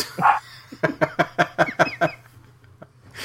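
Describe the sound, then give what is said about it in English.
A small female pet dog yaps once, then lets out a rapid, evenly spaced run of about seven sharp, fairly high-pitched barks before falling quiet. “In fact, I think she's barking because she's worried somebody,”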